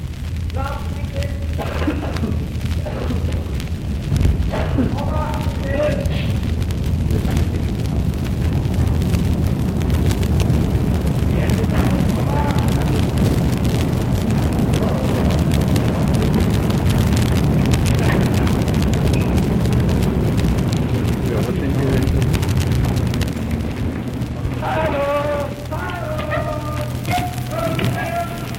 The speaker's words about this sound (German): Nun kommt der Zug. Wir hören bereits das Geräusch seiner Einfahrt. Machen wir einen Augenblick Halt und hören wir, wie er einfährt.